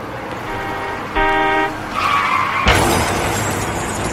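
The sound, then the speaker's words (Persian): A car horn blares once for about half a second over steady traffic rumble, then tires screech and a loud crash with shattering erupts and lingers. “یه صدا میاد این بوق مسخره.”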